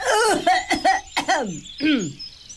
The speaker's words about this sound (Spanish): Mira cómo tengo tos.